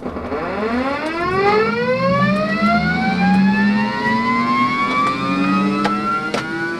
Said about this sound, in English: Squeezing into the cramped cockpit, the pilot straps in and prepares to start the engines of the air-to-air refueling plane.